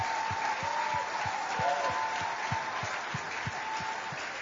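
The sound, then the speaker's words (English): A crowd applauds steadily to celebrate a pastor, the dense clapping continuing throughout, with a regular low thumping beat underneath. “Please celebrate Pastor Kpochu for you. Please clap.”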